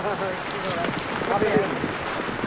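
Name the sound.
pouring rain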